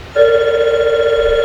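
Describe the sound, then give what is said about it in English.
A telephone rings with a steady, warbling electronic tone that starts abruptly and holds loud for over a second, with no voices present. “And you had phone again.”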